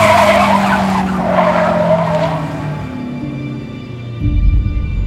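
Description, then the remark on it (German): A car brakes hard, its tires letting out a long, loud screech that slowly drops in pitch as it skids, ending with a heavy low rumble as the vehicle comes to a stop. “Vorsicht, das Auto!”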